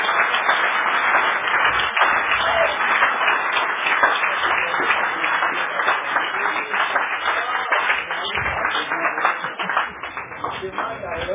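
An audience breaks into sustained, loud applause, dense rapid clapping with some cheering mixed in, holding steady for about ten seconds before easing slightly near the end.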